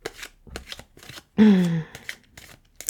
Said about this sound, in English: Yeah, it's your turn, dealer. Shuffle on.